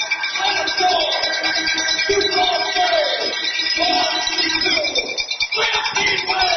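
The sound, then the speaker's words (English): A big indoor hockey arena crowd at Sioux Falls Arena roars in celebration at the end of a hockey game, a dense, steady wall of cheering with scattered whoops and yells rising above it throughout. “The crowd celebrating here at Sioux Falls Arena.”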